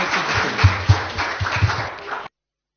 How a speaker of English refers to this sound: Let's give Piers a round of applause. Thanks very much.